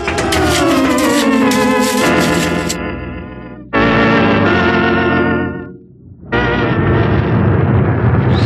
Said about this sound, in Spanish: Los potentes motores del jet de lujo Albatros siguen calentándose mientras la nave aérea permanece en la pista.